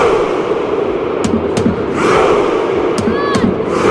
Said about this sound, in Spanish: Viking Row, el grito de guerra de la afición noruega que está siendo tendencia y causando sensación. Cientos de personas al mismo son. Es claramente la animación más popular del momento,